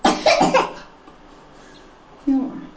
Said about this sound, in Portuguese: Estás com tosse.